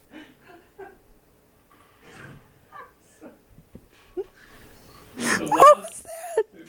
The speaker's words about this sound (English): What was that? I can't even talk. I mean, who was the guy that like coughed a lung up right there?